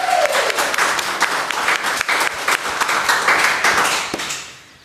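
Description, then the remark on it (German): A crowd applauds steadily to welcome a guest, dense overlapping claps holding a loud, even level for several seconds before fading out at the end, with no voices over it. “Einen Applaus.”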